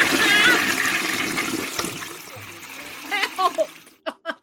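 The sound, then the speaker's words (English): A toilet flushes with a loud, hissing rush of water that gradually drains away, followed by a few short vocal bursts from someone speaking at the end. “Flush that bald nerd. I gotta flush him.”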